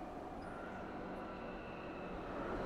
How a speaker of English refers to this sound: Traffic and trains, trains and traffic.